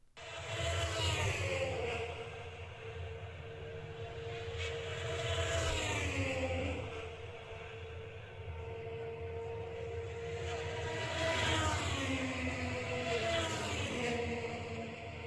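Indy race cars at a big race scream past in succession, their high-pitched engine whines sweeping downward in pitch as each one goes by, over a steady, loud roar that never lets up.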